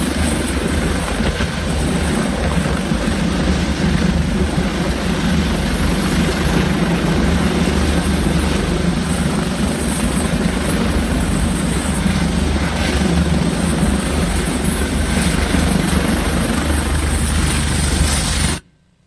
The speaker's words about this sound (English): helicopter to land now because of the wind.